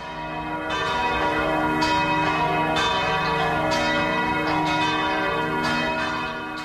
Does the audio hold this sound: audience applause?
no